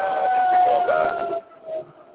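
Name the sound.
fire engine siren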